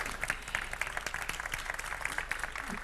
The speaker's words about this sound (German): Applaus am Anfang ist immer super,